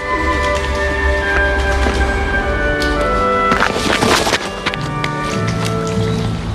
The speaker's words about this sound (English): She runs off up the path.